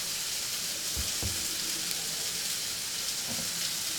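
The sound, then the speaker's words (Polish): Food sizzles steadily in a frying pan as it begins to brown, a dense crackling hiss that holds even throughout, with a few soft low knocks like a utensil touching the pan. No one speaks. “Już się zaczyna przypierać, więc możemy troszeczkę ogień zwiększyć, żeby to nam się równo przypiekło.”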